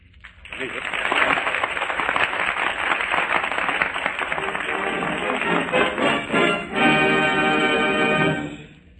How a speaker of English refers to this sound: Well, I think according to the applause here in the studio given to the competitors in this Echo contest, that the crown for the number one Echo Man of 1938 should belong to